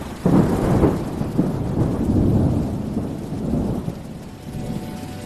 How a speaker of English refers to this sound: Actually, one of my absolute most favorite things, and it doesn't happen very often, is if you are with the chimps and it is a big, dramatic, sky tearing apart thunder kind of sound.